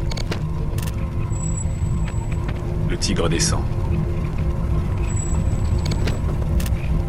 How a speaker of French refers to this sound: Les voitures éclaboussent l'eau tombée sur le goudron.